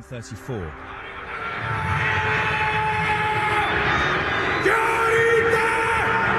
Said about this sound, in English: why did you just play a sound clip of the haka, or whatever it is, from New Zealand?